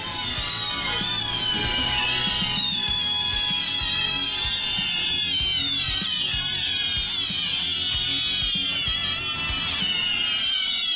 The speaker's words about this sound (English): That's right, cats.